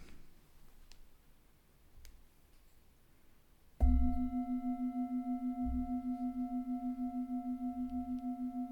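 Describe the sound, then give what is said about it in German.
A single gong strike at the end of a guided relaxation exercise breaks a quiet stretch, then rings on as a steady, humming tone with a slow, wavering pulse that stays strong for several seconds. “Wenn du bereit bist, öffne langsam die Augen oder du hörst nach dem Gong noch einer kleinen Notfallübung zu.”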